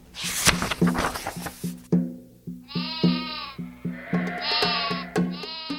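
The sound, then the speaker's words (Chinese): Several sheep being sheared bleat in turn, wavering calls rising over a steady low background hum, clear, with a brief noisy burst at the start and no talking. “被剪毛的绵羊”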